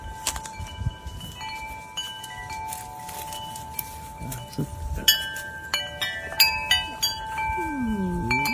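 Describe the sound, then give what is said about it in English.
Wind chimes tinkle with overlapping ringing tones that linger and decay, striking more often and more brightly toward the end, while a golden retriever sitting right next to the chimes howls along in a low wavering tone near the close. “So she's sitting right next to the chimes.”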